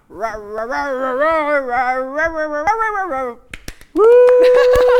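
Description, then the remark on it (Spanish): A person voices a long, wavering growl like a grumpy bear, sounding partly cat-like, followed by a few sharp clicks and a loud, steady held vocal tone. “Bueno, eso fue como entre un gato, un oso de mal genio.”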